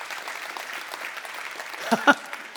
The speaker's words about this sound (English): And yeah, you can applaud that. You ought to applaud that.